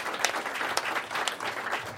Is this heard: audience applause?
yes